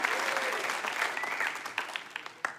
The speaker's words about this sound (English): If you're hearing what I'm saying so far, give the Lord a huge round of applause, because we're going to go a little bit deeper.